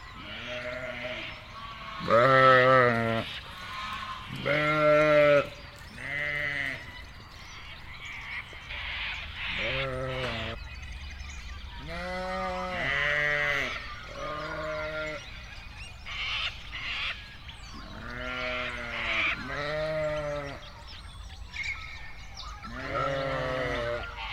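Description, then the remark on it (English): Suffolk sheep bleat repeatedly at feeding time, a chorus of loud, wavering cries overlapping in irregular bursts, some deep and throaty, others higher, with no talking. “Feeding Time, Suffolk Ship.”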